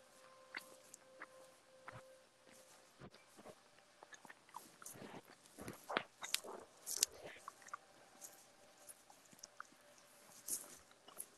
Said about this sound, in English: Introduce you to the sound of my chewing.